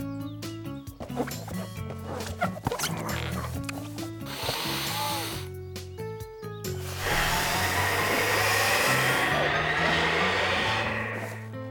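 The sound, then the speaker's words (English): A breathy rush of air blown into a big balloon for a fall carnival comes in two bursts, a short one and then a long, loud, steady gust, over a bright background of music. “We're trying to fill it with air, but it's really big.”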